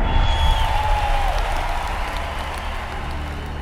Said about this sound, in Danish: og den store menneskeflok bryder ud i jubel.